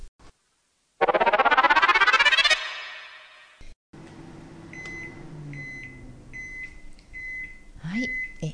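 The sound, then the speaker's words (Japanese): A microwave oven running at 600 watts for 15 minutes, with a container inside heated with its lid open, hums steadily while a string of short, high electronic beeps repeats at regular intervals, signalling the end of its cycle, after a brief loud burst at the start. “茹で時間は製品によって異なりますので、お使いの製品に表示されている茹で時間プラス3分を目安に電子レンジにかけましょう。”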